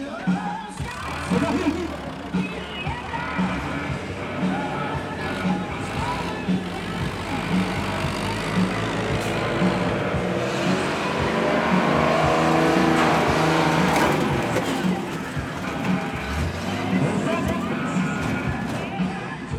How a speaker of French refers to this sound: Celui-là, de Monster Truck, il est vert avec des flammes oranges. C'est un Ford aussi, on dirait. Et alors, on doit bien faire 3 mètres de haut.